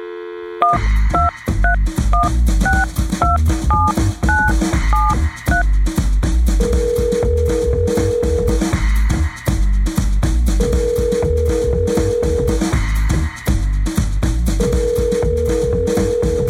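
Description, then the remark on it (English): A quick run of about a dozen touch-tone dialing beeps, followed by long, evenly spaced ringing tones as a call is placed to the Thunderheads, all over a steady backing of music. “Pick up the phone.”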